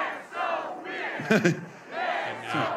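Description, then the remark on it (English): A large crowd at a political rally for Minnesota Governor Tim Walz, the Democratic vice presidential running mate, chants in unison, voices rising and falling in rhythmic surges, loud and sustained, with a sharper burst of shouting in the middle. “Now we're getting some chants from the crowd as the governor ensures that the attendee at the rally is getting some water and is attended to.”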